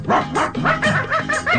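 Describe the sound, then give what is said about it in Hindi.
Several dogs bark and yip in quick succession, a loud, overlapping burst of barking with no pauses between the calls. “उस बस्ती के कुत्तों ने उसको देख लिया।”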